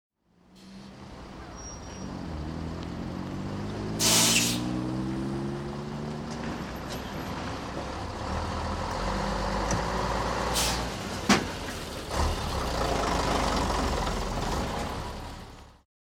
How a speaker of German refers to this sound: Der Bus.